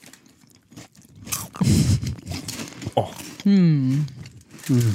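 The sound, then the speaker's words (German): A crinkly plastic bag of Norwegian candy is torn open, with several sharp crackling rustles, followed by a couple of short murmured vocal reactions from people. “Zum ersten Mal öffnen wir die berühmte Tüte schlechthin.”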